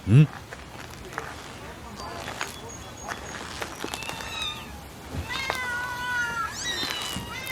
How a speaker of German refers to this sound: Warum sind denn da so viele Katzen drin?